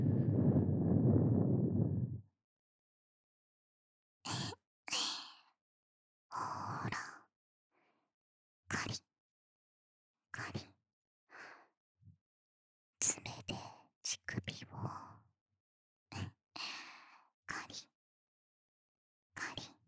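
Heavy, close breathing right against the microphone: one long, rushing exhale, then a string of shorter sighing breaths and soft puffs spaced irregularly through the quiet.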